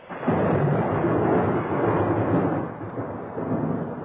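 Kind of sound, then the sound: nature, heavy rain and thunderstorm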